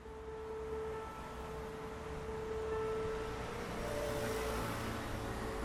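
Steady outdoor traffic ambience at a bus stop at 5 o'clock, with a continuous low rumble of passing vehicles and engine hum, a faint tonal drone running through it, no voices present.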